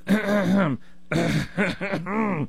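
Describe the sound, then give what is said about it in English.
A voice loudly imitates the exaggerated throat clearing of a woman who constantly clears her throat: a long, rough voiced rasp, a short pause, then a quick run of three more harsh, gravelly bursts. “If you tell me that your wife eats certain types of food and it just makes her burp and belch, and she grinds her teeth, and she constantly clears her throat like a...”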